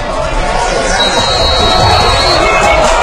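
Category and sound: crowd, crowd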